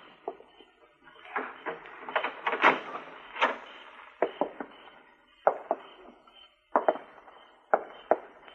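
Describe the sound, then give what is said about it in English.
A door is handled and opened, with a run of irregular wooden clunks, rattles and knocks, some spaced a second or so apart, with no voices. “Open the door.”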